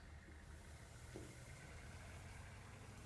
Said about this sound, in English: Throw him into the back of the truck. That's it. Start up the engine. Now go.